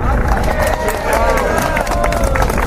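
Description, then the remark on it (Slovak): A small crowd of about eight people claps unevenly at the end of a monarchist demonstration for a Czech kingdom. Scattered individual hand claps mix with a low murmur of voices and some cheering, steady throughout. “Narátala som tam presne 8 párov rúk podľa toho potlesku.”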